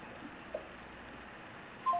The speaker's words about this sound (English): Yes, let me hang up the phone to make sure. Okay.